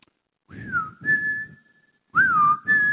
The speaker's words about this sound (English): Listen for my whistle.